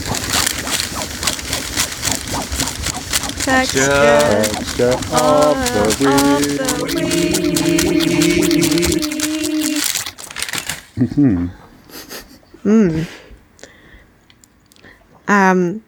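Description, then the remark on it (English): Crackly paper rustling and crinkling runs steadily for about ten seconds, with sustained voice-like tones over the middle stretch, then it stops and a few spoken phrases follow. “I've got some rusting paper.”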